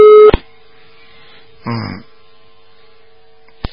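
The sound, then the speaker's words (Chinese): A phone line's busy tone cuts in loudly for a moment as a caller's call to a radio call-in show drops, then a faint steady tone lingers, broken by a brief muffled burst midway and a sharp click at the end. “哎呀，好，那么很多电话都跳掉了，真的。”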